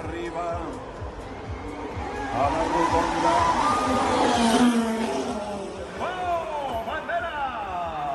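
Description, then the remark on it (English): A Formula One race car, Pepe's actual car, sounds its high-pitched engine scream on an afternoon. The scream swells to a loud peak midway, then revs up in rising bursts, set against a noisy crowd background. “it's something that Formula One fans love very much, to listen to the actual sound of the car.”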